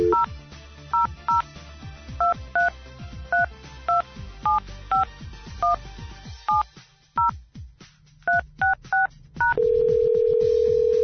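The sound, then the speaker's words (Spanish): A long run of crisp telephone keypad tones, each beep short and evenly paced as a bank's phone number is punched in after the receiver is picked up, then a steady continuous line tone takes over at the end. No voices. “A ver, descolgamos el teléfono. Este no es este. Ahora sí.”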